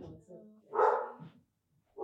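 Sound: dogs barking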